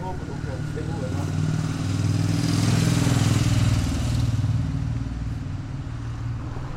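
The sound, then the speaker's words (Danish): Small two-stroke moped engines buzz and rev, rising to a louder drone mid-clip and then easing off, as young people ride their mopeds around a bus station on a Friday afternoon. “De unge kører rundt på busstationen på deres knallerter.”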